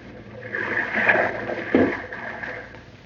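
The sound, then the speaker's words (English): A small boat with its motor shut off glides in toward a yacht, drifting quietly through water with soft lapping and swishing against the hull and a gentle hollow knock partway through. “shut off the motor. We'll glide in.”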